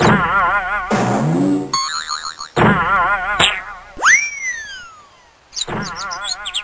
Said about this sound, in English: Oh no, the ball bounced all the way down the hill.